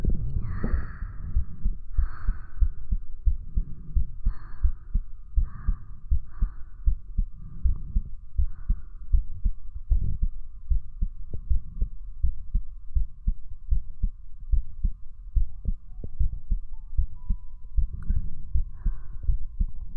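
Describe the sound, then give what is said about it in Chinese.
A steady heartbeat thumps low, a rapid regular pulse running throughout with a faint hum and soft higher tones drifting over it, no voices present. “听心跳，更没有让你听肚子叫。”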